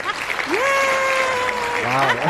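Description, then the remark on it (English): Steady, dense clapping from several hands fills the whole moment, with a voice letting out a long, drawn-out cheer over the applause. The clapping welcomes a guest into the studio at Radio Pulpit. “do you have that thing of hands, you know, where we clap for someone when we welcome them?”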